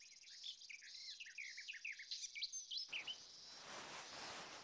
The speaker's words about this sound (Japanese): そうですね。大体いつも同じ鳥が来てますね。季節によっては渡り鳥が混じることもありますが。